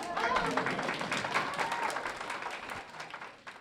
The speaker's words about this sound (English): The songs alternate between English and Haitian Creole, but regardless of which language they're sung in, each hymn brings the room together in applause.